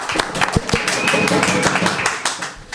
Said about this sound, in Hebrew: איפה מחיאות כפיים?